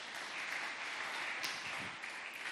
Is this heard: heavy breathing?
no